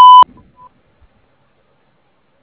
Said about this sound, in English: I'm unable to get to my phone right now, but if you'll please leave me your name, number, and a short message after the beep, I will get back to you as soon as possible.